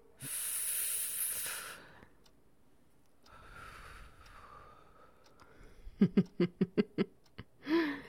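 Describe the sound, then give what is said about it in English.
A long, hissing breath blows cigarette smoke into someone's face, followed by quiet breathing, then a sudden fit of about six quick, sharp coughs and one last rougher cough. “Having it blown in your face makes you cough a bit.”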